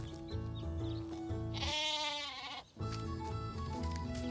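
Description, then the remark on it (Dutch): A single loud, wavering bleat from a second sheep, lasting about a second, rising over steady, bouncy background music that briefly drops away as the bleat ends. “Kijk, daar is het tweede schaap.”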